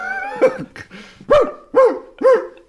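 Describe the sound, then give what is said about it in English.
A dog barks four times in close succession, loud, with short gaps between sharp yaps, preceded by a brief whiny, tonal lead-in. No one speaks. “If there was a dog barking and you were waiting for somebody to sing.”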